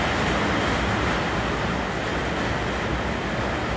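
Heavy rain of the rainy season pounds the tin roof of a home in a dense, unbroken roar, a steady loud hiss of countless drops with no pauses and no voices.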